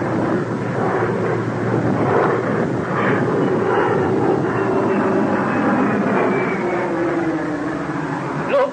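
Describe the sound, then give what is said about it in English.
An airplane's engines roar steadily, a loud, continuous rumble with a faint whine slowly shifting in pitch as it readies for takeoff, with no talking. “And the plane's about to take off, I'm afraid.”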